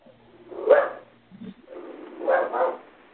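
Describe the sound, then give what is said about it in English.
A dog barks in a few short, separated bursts: one sharp bark, a pause, then a quick double bark. Fairly loud, with no one talking. “I have dogs, but that's not them barking.”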